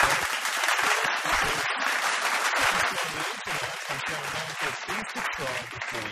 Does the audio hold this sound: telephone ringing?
no